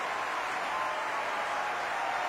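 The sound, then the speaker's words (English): Sustained applause from a large opera audience greeting Placido Domingo, a dense, steady wash of clapping that holds at an even, fairly loud level throughout, with no voices standing out. “Well, that applause greets the one and only Placido Domingo, as do a bouquet or two of flowers flying up on the stage.”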